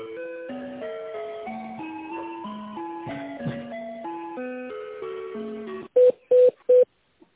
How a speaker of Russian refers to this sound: Телефон.